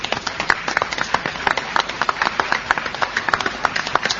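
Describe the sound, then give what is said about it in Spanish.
An audience at the Fonoplatea of the radio programme En Perspectiva applauds the guests, many hands clapping in a dense, steady patter of sharp claps that holds at an even loudness for about four seconds, with no voices over it. “Vamos a aplaudirlos a ellos.”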